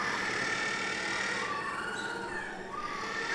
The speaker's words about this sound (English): One thing I didn't count on in doing a story on the world's smallest penguin was being shouted down by them in a building off the exhibit.